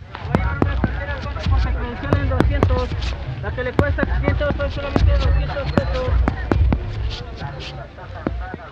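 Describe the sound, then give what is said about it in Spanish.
Fireworks rockets bursting in rapid, irregular sharp bangs, loud, over a steady murmur of crowd voices and background bustle. “La verdad es que se escuchan y se ven bien padres.”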